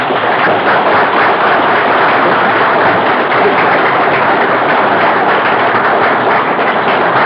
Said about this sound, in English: Keep clapping while I take the picture, will okay?